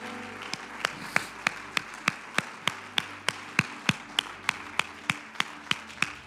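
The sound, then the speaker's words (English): A church audience claps hands in praise to the Lord in steady unison, about twenty sharp, evenly spaced claps at a brisk tempo, with no voices over them. “Clap your hands to the Lord and give him praise.”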